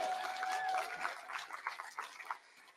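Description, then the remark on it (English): A crowd applauds for a few seconds, a dense patter of many hands clapping that swells and then thins out, with a brief high whistle-like tone near the start. “Clap if you like it.”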